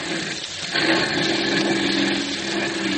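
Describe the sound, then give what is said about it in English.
An armored car's engine drones steadily as it comes over the top of a hill, a rough mechanical whine with a low rumble beneath, growing a little louder and brighter after the first moment as it approaches. No one speaks. “There's the armored car coming over the top of the hill.”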